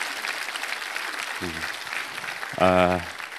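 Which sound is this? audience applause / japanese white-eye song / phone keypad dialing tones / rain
audience applause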